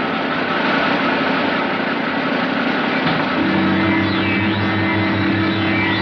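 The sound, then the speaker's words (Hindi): A car engine idles steadily at a police checkpoint where vehicles are checked before leaving, a constant low rumble that settles into a deeper, more tonal hum about halfway through, with no one speaking. “Sorry for stopping you, हमको अभी अंदर से ऑर्डर आया है कि कोई गाड़ी बगैर चेकिंग के बाहर नहीं जा सकती।”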